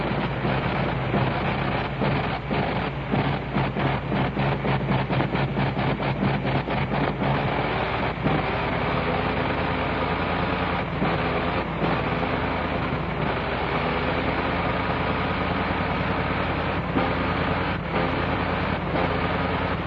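A 425-horsepower Liberty piston aircraft engine runs loud as it warms up, its rapid chugging firing pulses gradually smoothing into a steady, throaty roar with no voices over it.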